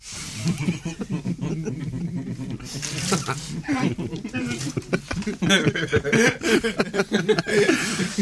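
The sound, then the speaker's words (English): Water runs steadily from a tap with a continuous splashing hiss, while voices murmur and chuckle underneath throughout. “Right, so more water, please.”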